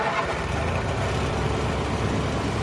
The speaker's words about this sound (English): gunned the engine and steered the craft away from the Institute's dock and along the narrow inlet that would lead them quickly out into the Atlantic.